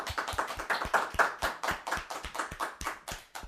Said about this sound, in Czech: Tak děkujeme, tleskáme.